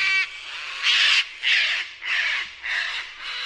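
A sulfur-crested cockatoo in Sydney, Australia lets out a string of harsh, raspy squawks, about five loud screeches in a steady rhythm, with no voices around.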